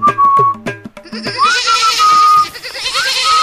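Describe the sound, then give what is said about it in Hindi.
Goats blocking a bullock cart bleat in a quick series of loud, wavering cries, then a clear high whistle, blown to draw the goats away, sounds, rising and holding its pitch, repeated twice over a noisy background. “मैं क्या करूँ मीना, ये बकरियाँ बैलगाड़ी के सामने से हटी नहीं रही।”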